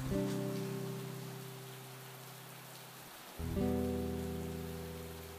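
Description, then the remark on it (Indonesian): Steady rain falls as a soft, even hiss beneath sustained low musical chords, which pause briefly midway and then swell back in. No one speaks. “kamu tahu gak kenapa aku suka hujan?”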